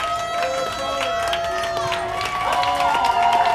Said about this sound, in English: Chris Tanev. Do we have an applause?